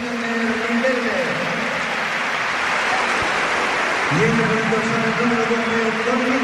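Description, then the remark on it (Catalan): A large stadium crowd gives a sustained ovation, a dense, steady roar of applause and cheering that holds for several seconds, with sung or shouted voices rising out of the noise midway, for Riquelme as he is substituted off after 80 minutes of play in a match involving Atlético de Madrid, with Toni Villa coming on. “Encara que els hagi fet el gol, l'ovacionen més perquè no l'ha celebrat, i això evidentment els toca la fibra.”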